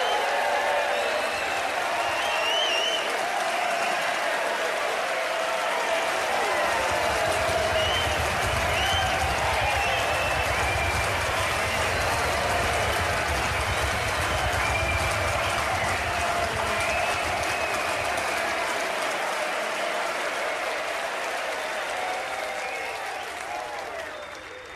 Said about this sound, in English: In the theatre, Johnson in the spotlight laps up the applause.